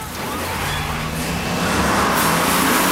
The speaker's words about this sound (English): The bus sets off, plowing through the burning, upturned vehicles littering the street.